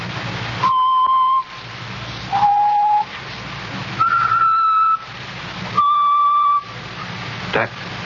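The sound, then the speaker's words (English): Someone whistles a slow song tune in four long, steady notes that shift in pitch, clear, over a constant background hiss with no talking. “He's always whistling it.”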